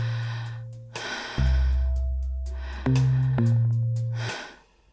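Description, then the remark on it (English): A biathlete's slow, deliberate ritualized breaths in and out to steady the heartbeat before a rifle shot, with a low steady drone underneath. The final exhale stops abruptly into near silence. “And it's on that cutoff exhale that you then kind of take that next shot in.”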